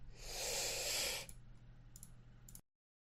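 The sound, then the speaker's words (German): Someone blows their nose with a loud, forceful gust lasting about a second, followed by softer sniffly rustling and a few faint clicks, with no talking. “Entschuldigung, ich muss mir da mal schnell die Nase putzen, das würde ihr ja bestimmt nicht hören unbedingt.”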